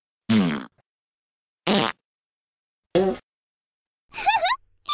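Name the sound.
fart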